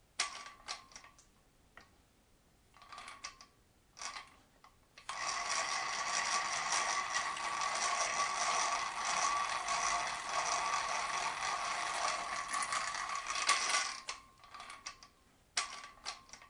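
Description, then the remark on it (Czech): An ordinary hand drill, a hand-cranked tool with a crank and gear transmission, turns in a few short, jerky bursts. It then spins steadily for about nine seconds with a buzzing, ticking gear whir, before ending in more brief stop-start turns. No one speaks. “Ano, jedná se o zařízení na ruční pohon. Obsahuje kliku, nějaké ozubené převody.”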